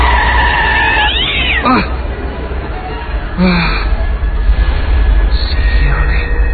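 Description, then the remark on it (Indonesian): A cat hit by a vehicle in the middle of the road yowls in a strained, rising wail over a loud, steady rumble like passing traffic, with a few shorter cries breaking through before it fades. “Semuanya aja sih ada di tengah jalan ketabrak kan kucingnya.”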